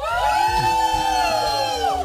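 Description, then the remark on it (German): A loud burst of group cheering from prize winners gathered around the prize bed at a bed raffle, many voices shouting and whooping together at once on a countdown, sustained for a couple of seconds. “Und vielleicht wollen die einfach mal ganz laut jubeln bei 3, 2, 1 und...”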